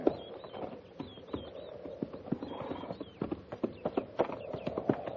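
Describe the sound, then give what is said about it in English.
Several soldiers' horses' hooves clip-clop in an irregular, overlapping rhythm as the company halts by a creek to water them, with creaks and rattles of tack mixed in and a faint, brief whinny-like sound. “Captain says we'll take a break here, ease those cinches, and lead the mounts down to the stream there in water.”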